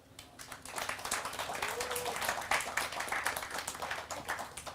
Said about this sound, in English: So I want you to give a warm applause and warm welcome to